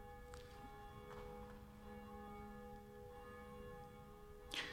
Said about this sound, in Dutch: In de klokkentoren, die zich duidelijk laat horen, wel, daar is één van die klokken, die heet Jacobus, naast Barbara en Blasius, en die horen wij momenteel luiden.